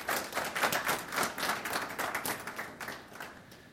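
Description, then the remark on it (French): A crowd applauds steadily to thank a speaker, many hands clapping in a dense, bright patter that swells and then gradually tapers off over a few seconds, with no voices. “On peut l'applaudir pour le remercier.”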